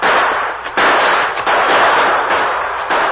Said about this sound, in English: In the twilight, the Lone Ranger and Tonto exchanged shots with the two remaining outlaws. But the trees provided safety for them, and it looked as though they might escape.